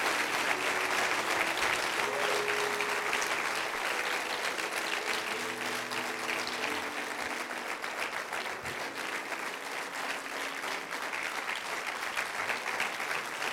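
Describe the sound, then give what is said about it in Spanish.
An audience applauds the Lord steadily for the whole stretch, a dense, sustained wash of clapping that stays loud throughout, with faint sustained musical tones beneath it and no clear talking. “Si lo crees, dele fuerte aplauso al Señor en este día.”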